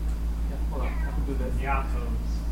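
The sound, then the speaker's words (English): A cat meows twice in quick succession, short wavering cries at moderate volume over a steady low background hum. “Kitty!”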